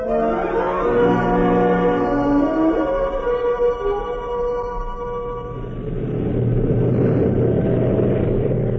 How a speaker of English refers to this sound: Streeter's plane took off into the sunset. I stared at the place in the sky where he was vanishing into the world outside